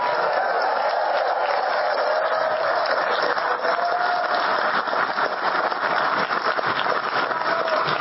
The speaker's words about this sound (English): Listen to that roar. Listen to the roar of the crowd. People jumping up and cheering.